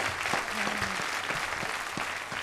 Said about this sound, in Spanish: Un aplauso a todos nuestros contertulios, por favor. Gracias por estar aquí.